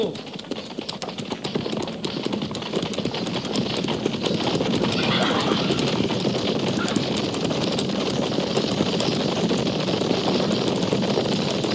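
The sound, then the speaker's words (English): Many hooves pound in a fast, dense, continuous rhythm as horses gallop, with a steady rushing noise of wind underneath throughout. “At the gallop!”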